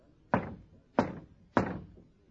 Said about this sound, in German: Dann klopfte er an die Pforte.